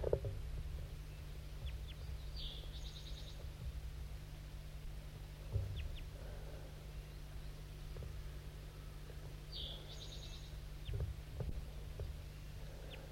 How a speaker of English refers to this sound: I thought I heard another crossbill perched in the tree above, looking down, because yeah, there is, I'm pointing to it right now. There's another crossbill here, I didn't even know it.